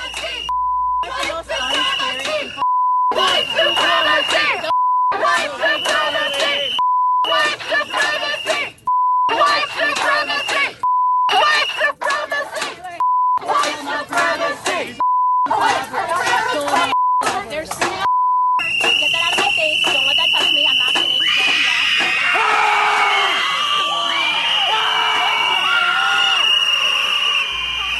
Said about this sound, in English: Did you hear that? Like shrieking from hell? Just like these demons, these just screaming in her face.